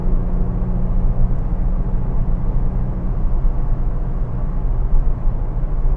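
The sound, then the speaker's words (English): A car engine hums steadily at cruising speed, a continuous low rumble with road noise that stays loud for the whole stretch, no voices; the car is driving onto a flat stretch after a series of corners. “Oh, listen to that engine.”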